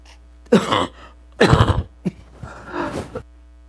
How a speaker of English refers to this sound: Just a little last vestige of a sinus condition. They said the cough was the last to go. It's been taking a month to go, but that's what the doctor said.